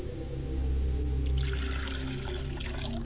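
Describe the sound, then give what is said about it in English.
Water is poured as a libation in a steady stream for a few seconds, a trickling splash that brightens midway, with a low steady hum underneath and no talking. “I pour libations to the north and I say Ashe.”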